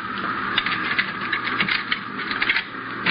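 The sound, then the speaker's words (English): Keys jingle and click against a metal door lock, a busy run of small rattles and ratchety clicks as the lock is worked open to unlock the door, with no voices. “Now here, pick up these keys and open that door.”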